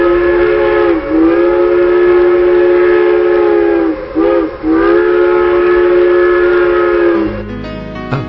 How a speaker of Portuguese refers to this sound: Nesse momento, o trem diminui sua velocidade para que embarquem e desembarquem pessoas. Minha expectativa aumenta à medida que o trem vai diminuindo sua velocidade.